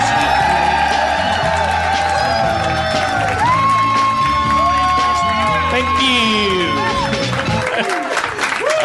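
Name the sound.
audience cheering and applauding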